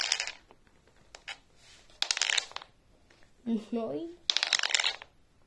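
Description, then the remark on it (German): Dice rattle and clatter in three quick bursts of sharp clicking, with a few scattered taps between them and a short murmur of a voice in the middle, rolled during a game to find the damage of a fireball attack. “Du musst ja einmal würfeln.”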